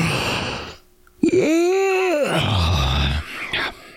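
A loud, drawn-out yawn: a voiced groan swells upward in pitch, holds for about a second, then slides down into a breathy exhale, with no talking.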